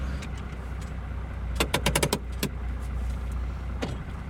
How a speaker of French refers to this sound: Donc là, c'est un tracteur qui a de l'âge maintenant et qui fait que de la mélangeuse.